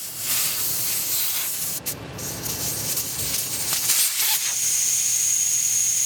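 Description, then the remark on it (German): Air hisses steadily out of an off-road vehicle's tire as the pressure is lowered for driving through the desert, a loud, bright rush that briefly stutters once and then carries on, gaining a thin whistling edge toward the end. “Mohammed lässt Luft aus den Reifen seines Geländewagens.”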